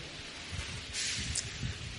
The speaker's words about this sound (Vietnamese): tại cái quạt chứ không phải tại tôi nhé. Đây gọi là tại cái quạt, nó gió nó bay mất trang sách. Đúng rồi, gió bay trang sách.